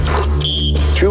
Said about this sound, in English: It is time to beat the buzzer.